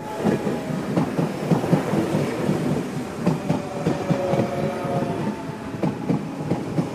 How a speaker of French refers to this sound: Le train démarre, tout va bien, jusqu'à ce que le train fasse un accident avec un autre train.